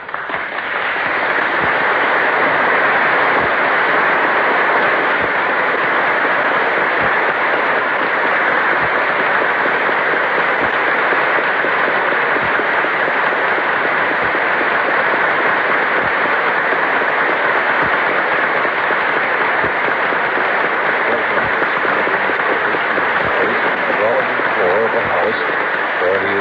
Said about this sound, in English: Members of his cabinet, everyone is standing. The applause is tremendous as he comes in.